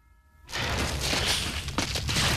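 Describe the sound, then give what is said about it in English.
After a brief quiet hum, a patch of glass-like ice on snow-covered peaks suddenly bursts into loud, continuous cracking and crunching beneath two people running across it, a harsh rumble with a few sharper snaps toward the end. “They run as the ice cracks beneath them.”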